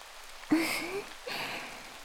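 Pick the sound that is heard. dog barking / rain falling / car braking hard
rain falling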